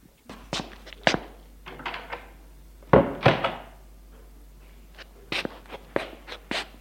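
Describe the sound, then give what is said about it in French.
An apartment door shuts with a solid thunk, followed by scattered knocks, taps and light footsteps as a woman walks to the living room, no voices present. “Elle a fermé la porte et va sans jauge au salon.”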